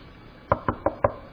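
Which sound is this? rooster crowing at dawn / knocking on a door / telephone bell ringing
knocking on a door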